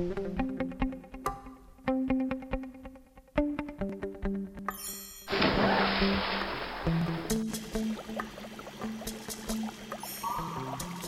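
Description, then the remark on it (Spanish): Music plays, then halfway through a loud splash erupts as someone dives into the ocean, followed by a sustained rushing, bubbling wash of water under the continuing music. “Precisamente en estos momentos nos disponemos a zambullirnos en el océano para buscar bancos de meros que abran a esta hora, con el fin de estudiar los métodos de cortejo de estos fascinantes seres vivientes.”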